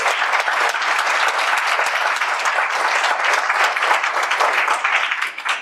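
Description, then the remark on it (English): An audience applauds the candidates at the end of an evening's questions, steadily for several seconds, a dense, even wash of many hands clapping at once, holding a constant loudness before easing slightly at the very end. “So let's give our candidates one more round of applause.”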